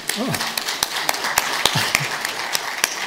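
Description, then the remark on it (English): Audience applause, a dense, steady patter of many hands clapping with a few sharper, louder claps standing out, and brief voices murmuring underneath. “You should applaud that because he is the gold.”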